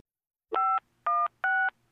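Three loud touch-tone beeps from a telephone keypad, each a steady two-note tone about a quarter second long, evenly spaced with short silences between and no voices.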